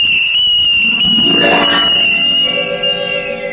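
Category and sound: signal or alarm, shrill tin whistle blown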